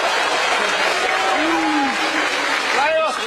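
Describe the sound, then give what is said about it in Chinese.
A performer on stage vocally imitates the Peashooter plant from the game Plants vs. Zombies with a few short, bouncing vocal pops and chirps, mostly buried under steady audience noise and applause. “我学一个豌豆射手啊，再来一个，我的球不够是吗？”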